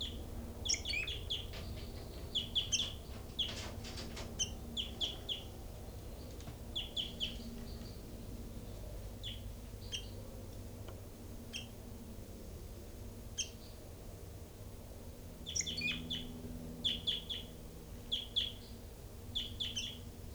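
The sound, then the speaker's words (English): Small caged birds in cells chirp and tweet in quick, high-pitched bursts, several calling with short pauses between clusters, over a steady low hum of background noise. “And right now I'm at the cells of birds 3-3 and 5-9 and also 40 and 06.”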